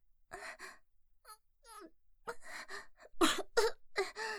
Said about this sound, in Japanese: ダメですね、気張ったら咳が止まらない。